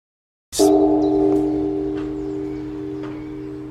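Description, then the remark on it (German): A single deep bell in the bell tower of a Buddhist centre in Waldbröl, Germany, is struck once by a nun in the evening to call to dinner, with a sharp onset, then rings on with a long, steady, humming resonance that slowly fades while remaining fairly loud. “Mit kräftigen Glockenschlägen und Gesang ruft eine Nonne abends zum Essen.”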